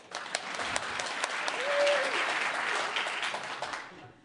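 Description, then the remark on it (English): An audience claps on a host's prompt about a Candy Crush joke, steadily for about four seconds, a dense, fairly loud patter of many hands that swells in the middle and tapers off at the end, with a brief tonal whistle partway through. “Applaud if you do, but you didn't think it was funny.”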